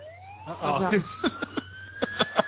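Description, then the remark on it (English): A police siren wails in one long, slowly rising tone, steady, while short bursts of voice and percussive vocal sounds break in over it. “The cops have been alerted to the theft of a turd. The turd has been burgled and the sirens are...”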